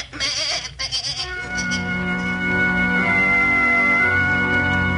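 goat bleating

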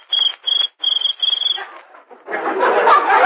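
cricket chirping

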